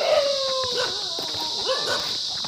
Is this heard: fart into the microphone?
no